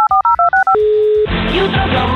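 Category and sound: signal or alarm, telephone number being dialed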